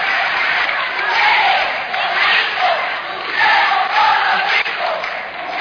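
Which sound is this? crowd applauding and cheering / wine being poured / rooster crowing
crowd applauding and cheering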